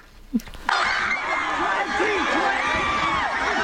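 A large crowd at a political rally erupts into loud, sustained screaming and cheering after a brief quieter moment, the shrill roar continuous and dense.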